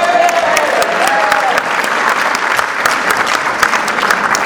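An audience at a meeting claps steadily and loudly for its newest Goodwill member, a dense patter of many hands, with a brief whistle rising above the applause near the start.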